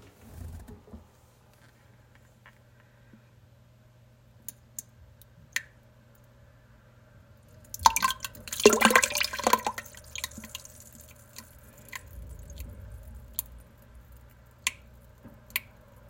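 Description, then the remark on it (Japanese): Someone defecates loose stool into toilet water, recorded with a smartphone held close: sparse single drips and plops, then a dense, sputtering splash lasting about two seconds, followed by a few more scattered drips over a low steady hum. “食べ物の話をしていたらうんちが出てきそうになりました。ちょっとスマホ近づけて音を聞いてもらいます。”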